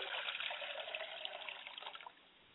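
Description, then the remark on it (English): Liquid pours out as a libation in a prayer ritual, a steady, splashing trickle for about two seconds, clear, then tapers off abruptly. No one speaks. “I pour libation for my father's spirit, and we say, Ashe.”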